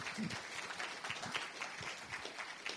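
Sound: round of applause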